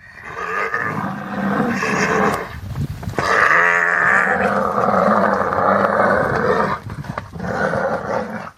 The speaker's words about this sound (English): Here's some sound just last year, September 2016, at Pilansberg Game Reserve in South Africa, where a mother giraffe growls as she tries to save her baby from being eaten by lions.